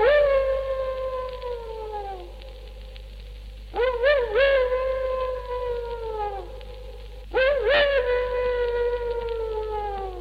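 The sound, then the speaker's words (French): A dog howls far off in the countryside on a summer night: three long, drawn-out wails, each starting with a wavering rise and then slowly sagging in pitch, repeating every few seconds with no voices present. “J'entendais même, par une nuit d'été assez semblable à celle-ci, un chien au loin dans la campagne qui, à sa façon, faisait lui aussi sa prière.”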